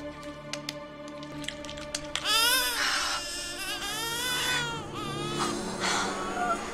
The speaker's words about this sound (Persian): کفون که تو پله های راه رو بود صدای نوزاد رو میشنوه، از پله ها میره پایین.